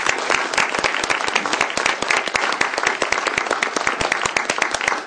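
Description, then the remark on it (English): Steady applause from an audience at a city government session, honoring a long-serving public servant, fills the whole stretch, a dense patter of many hands clapping at a brisk, fairly loud level with a few sharper individual claps standing out. “So let's have a round of applause and then a quick break for some photos.”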